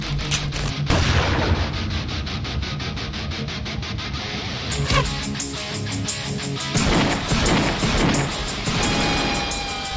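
A loud, sustained barrage of booming cannon shots fires in rapid succession over a constant low rumble, like a ship's broadside battle. No voices can be heard.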